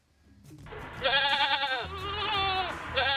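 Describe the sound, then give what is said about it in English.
A goat bleats loudly, a long wavering call followed by a second drawn-out bleat and the start of a third, with no one talking. “I have no place to put my goats.”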